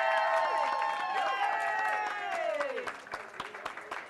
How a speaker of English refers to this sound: So the next award goes to the Naperville Noon Lions Club. There's no one in the audience right now, but we can clap for them anyway.